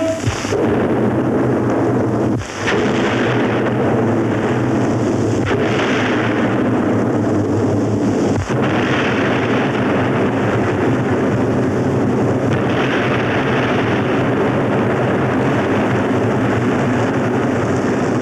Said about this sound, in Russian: Три взрыва на крутом берегу завершают картину, которую газета «Нью-Йорк Таймс» назвала лучшим звуковым советским фильмом.